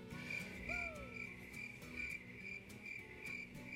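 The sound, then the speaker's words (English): A crickets sound effect: crickets chirp in a steady, continuous high trill with a faint pulsing rhythm, joined briefly near the start by a single descending whistle-like call from a bird. No voices. “we've got to use them some so that they can meet their contract minimums”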